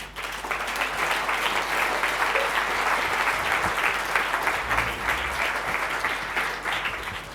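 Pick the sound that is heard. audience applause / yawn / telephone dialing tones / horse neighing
audience applause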